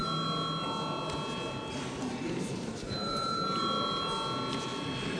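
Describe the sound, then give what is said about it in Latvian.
A continuous electric bell rings steadily for several seconds in the Latvian parliament before a vote on the archives bill, loud, its tone holding without pause over a faint murmur of room noise. “Paldies, lūdzu zvanu.”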